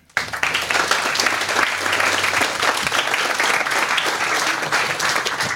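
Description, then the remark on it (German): An audience bursts into sustained applause welcoming a speaker before his talk, a dense, steady wash of many hands clapping at even loudness for several seconds after a quick start. “Ich würde sagen, wir heißen ihn schon mal herzlich willkommen mit einem großen Applaus.”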